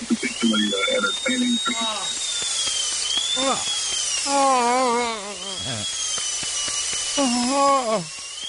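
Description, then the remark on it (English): A dentist's drill whines at a high, steady pitch for the whole stretch, rising and dipping slightly, while a voice makes drawn-out sounds over it. “Give me some like dentist drill sound effects.”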